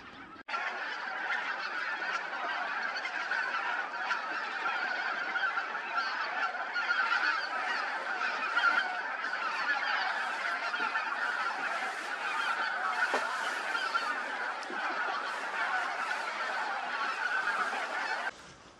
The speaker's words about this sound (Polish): No i full wypas. 2000 gąsek, od kolegi się dowiedziałem, że nawet do 10 tysięcy potrafi przelecieć teraz na noc, tak około. Głównie gęś białoczelna i zbożowa, za to bernikle białolice.